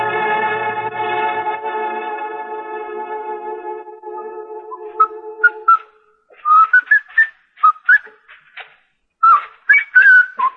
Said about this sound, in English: Chester, if you insist on whistling, would you mind doing it outside? Yes, sir, Mr. Dillon. I just thought it might kind of cheer you up, son.